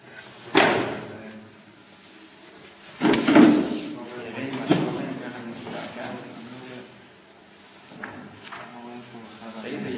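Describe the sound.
Several wooden thumps and knocks from a house door being opened and closed, with creaks and rattles between them. The sounds are irregularly spaced, with voices murmuring faintly in the background.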